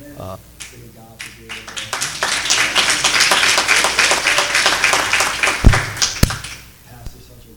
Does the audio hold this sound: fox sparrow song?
no